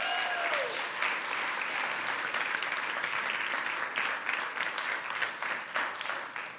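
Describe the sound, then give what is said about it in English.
An audience at Kairos church breaks into a sustained round of applause for the church's kids ministry, dense and steady clapping from many hands that holds at an even level for several seconds before easing slightly. “If you appreciate our kids ministry, will you give them a round of applause really quick?”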